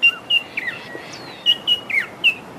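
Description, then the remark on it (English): A fluffy-backed tit-babbler calls in a quick series of short, high whistled chirps and slurred notes, about eight in irregular bursts, clear over faint background hiss. “That is a fluffy backed tip babbler.”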